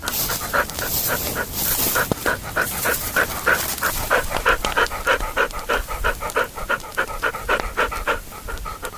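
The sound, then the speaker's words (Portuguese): The female dog Baleia pants excitedly while wagging her tail and making short little hops, a quick, steady run of breathy huffs repeating several times a second for the whole stretch, fairly loud with no voices. “Baleia chegou junto de Sinhá Vitória, abanando o rabo, ofegante e dando saltos curtinhos.”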